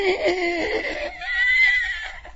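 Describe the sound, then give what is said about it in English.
A person vocally imitates a horse's whinny as a Foley-style effect in a told story, a loud, wavering high-pitched neigh lasting about two seconds, rising into a thin sustained squeal at the end. “And then the horse runs through the room.”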